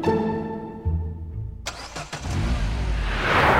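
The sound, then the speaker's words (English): A big old vintage bus engine cranks and catches with a sharp burst, then settles into a heavy, rough rumble that grows louder and throatier as it revs, with no voices. “And, you know, you see it passing down the road and people cannot help but look.”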